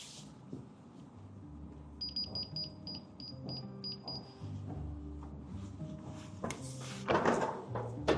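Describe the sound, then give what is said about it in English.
A run of short electronic keypad beeps as a pin code is entered, then deep mechanical rumbling and loud metallic clunks as a heavy UL Class 2 steel vault door weighing at least 1.5 tons is unlocked and swung open, with no talking. “So this door is slightly smaller, but it weighs at least 1.5 ton.”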